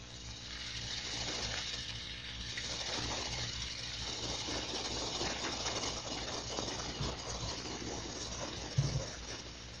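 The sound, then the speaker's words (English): A steady, droning machinery rumble with a broad hissing wash over it, a ship's engine picked up underwater through a hydrophone, continuous for the whole stretch with a brief thump near the end. “Propeller, engine, or auxiliary sounds may help you identify a ship, but first contact at long range may be just a hiss as you sweep over the target.”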